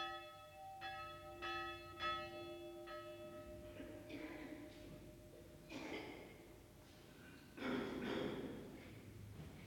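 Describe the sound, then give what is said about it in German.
A church death knell tolls slowly for a funeral at a narrow cemetery outside the Hungarian provincial town of Sopron, signalling the priest walking to the chapel, ringing about five strokes in the first few seconds, its tone hanging in the air before soft breathy, shuffling noises take over. “Auf dem schmalen Friedhof vor der ungarischen Provinzstadt Sopron läutet die Totenglocke für den alten Laszlo Bozsó.”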